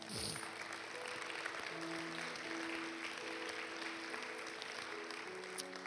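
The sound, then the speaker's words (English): An audience at a church service claps steadily for several seconds, a dense, even wash of many hands with no pauses, with a faint sustained musical tone underneath; the clapping welcomes those who lifted their hands and is praise and thanksgiving to God. “If you don't understand, that clap was two things.”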